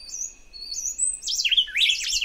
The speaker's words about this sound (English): recorded the formative songs of a bird called the canebrake wren in their nests in the Costa Rican forest. Here's the same baby bird singing just 2 weeks earlier. Listen for it trampling on the lines of its parent in the second half of this duet.